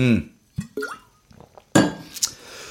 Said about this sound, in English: Quick sip of water again because I started laughing.